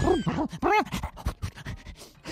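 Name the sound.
voice imitating a helicopter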